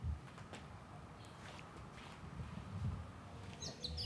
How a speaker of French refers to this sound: Alors eux, c'est ceux que tu entends, là, ce sont les merles. Moi, je les appelle les merles. C'est une espèce d'oiseau noir qui est apparu il y a une vingtaine d'années. Qui n'était pas là avant. Je crois qu'ils viennent des Antilles.